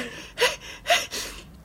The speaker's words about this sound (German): Gesundheit. Oje, ich hab einen Niesanfall. Hoffentlich bin ich nicht gegen der Eierlikör allergisch.